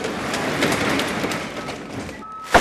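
A delivery truck's engine rumbles as it pulls up, then a single steady electronic reversing beep sounds briefly near the end, followed by a sharp clunk.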